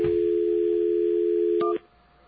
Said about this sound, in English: Let's try something. Get us a dial tone here, please. There we are.